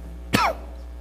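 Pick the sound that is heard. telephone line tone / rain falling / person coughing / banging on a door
person coughing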